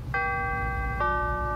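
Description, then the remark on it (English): A two-note electronic door-closing chime on a train: a bright sustained tone, then a lower second note about a second later, ringing over a steady low rumble. “doors closing.”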